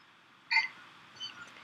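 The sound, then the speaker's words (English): A person imitates a cat with one short, high, squeaky mew, then a softer, fainter second note about half a second later. There is no other talking. “I like when you make kitty sounds.”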